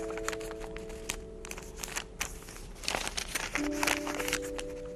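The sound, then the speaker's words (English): Crisp paper crinkling and rustling in repeated short bursts, with sharp creases and soft crackles as paper is folded into origami, over a steady low hum. “Do you ever think of your grandfather when you fold paper?”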